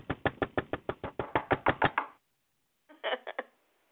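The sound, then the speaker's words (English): A quick, steady run of about a dozen sharp knuckle knocks on a hard surface, a brief silence, then a shorter burst of four more knocks, fairly loud with no voices. “Those knuckles and those fingers are going to get tough and they're going to get raw this season, baby.”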